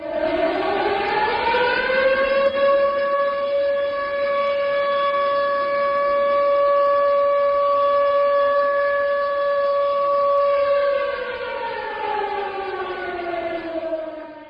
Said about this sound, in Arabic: وقف الصينيون اليوم 3 دقائق حدادا على أرواح عشرات الآلاف من ضحايا الهزة الأرضية التي ضربت إقليم سيشوان يوم الاثنين الماضي، ورافق دقائق الصمت إطلاق صفارات الإنذار في مختلف أنحاء البلاد.